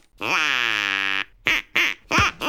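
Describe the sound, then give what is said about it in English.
A duck quacks, one long drawn-out nasal quack followed by three short, sharp quacks in quick succession, loud and with no talking. “And just to prove we're serious about this, we've got a duck.”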